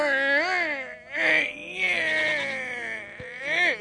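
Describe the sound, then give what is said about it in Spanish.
A voice imitates a mournful, almost human donkey bray, drawn-out wailing tones that rise and fall in pitch over several seconds, loud with no other sounds around it. “Ese rebuzno triste casi humano enloquece a los perros.”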